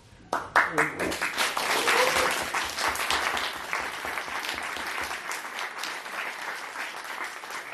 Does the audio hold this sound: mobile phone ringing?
no